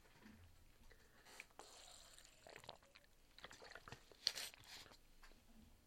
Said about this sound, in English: Let me take a little water break. I'll be right back.